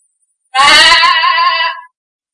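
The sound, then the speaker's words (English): A single loud, nasal bleat blown on a sheep call, lasting just over a second with a wavering, buzzy tone that imitates a sheep, alone with no talk. “thinks he's going to get rich making sheep calls. All you have to do is blow and the sheep will fall.”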